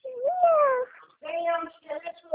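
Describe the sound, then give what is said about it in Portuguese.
A kitten meows: one drawn-out, rising-and-falling mew, then a pause and a few shorter, insistent cries in quick succession. “Ei, meu gatinho. Olha meu gatinho aqui, meu.”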